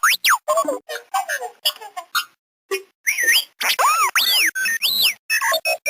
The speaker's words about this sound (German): Ja, das charakteristische Quietschen kennt man ja vielleicht. Das war R2-D2 aus Star Wars.